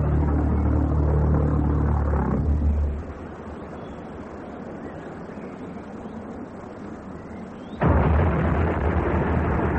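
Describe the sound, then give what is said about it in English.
An unmanned plane, a kind of flying bomb, explodes on open ground after its engine cut out past the south coast: a heavy, booming explosion with deep low rumble, then a quieter smoldering rumble before a second loud blast bursts in near the end. “When it fell to earth, it exploded.”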